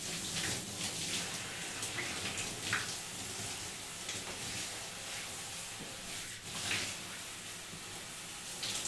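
Warm bath water pours in a steady stream with a soft splashing hiss that continues throughout, occasionally rising and falling slightly, with no voices present.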